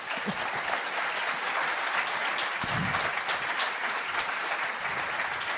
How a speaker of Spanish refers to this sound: Pido un aplauso para ella.